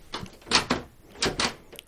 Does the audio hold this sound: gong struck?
no